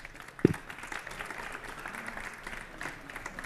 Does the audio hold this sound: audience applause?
yes